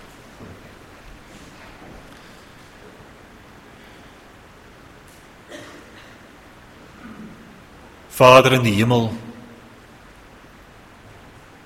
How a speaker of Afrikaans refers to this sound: terwyl die reën so neersak waarvoor ons u baie dankbaar is,